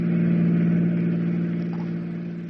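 A fast-moving car's engine hums steadily while driving on a windy night, a continuous low drone, fairly loud, easing slightly in volume toward the end, with no voices.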